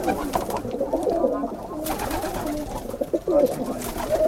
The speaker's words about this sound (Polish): My mamy taką sytuację tam na Szcińskiej troszkę dalej, to tam ludzie trzymają te gołębie i to wydaje mi się przy zabudowie zagrodowej, gdzie są duże działki budowlane, to ludziom powiedzmy nie powinno przeszkadzać.